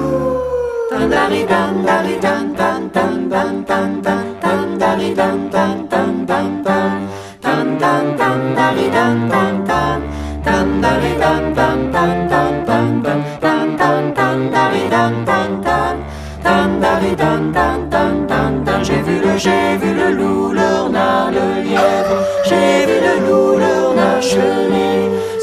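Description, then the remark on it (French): The lively children's folk song "J'ai vu le loup" plays loudly and continuously on the radio station Fréquence 7, with voices singing over steady, rhythmic instrumental accompaniment and a regular beat throughout. “Nous commençons par une chanson.”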